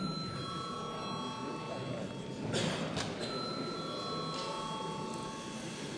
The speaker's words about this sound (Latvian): Lūdzu, zvanu.